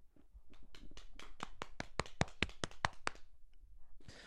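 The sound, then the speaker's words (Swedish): A small round of applause after a successful quiz: roughly fifteen sharp hand claps in a quick, steady rhythm, starting soft, growing louder, then stopping abruptly, followed by a brief breathy rustle. “En liten applåd.”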